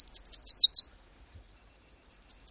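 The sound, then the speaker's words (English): A male Wilson's warbler sings from deep within a shrubby thicket, two bursts of rapid, high chip-like notes, five quick descending chips, a short pause, then five more, loud with no talking. “This brisk flurry of notes is the song of a male Wilson's warbler.”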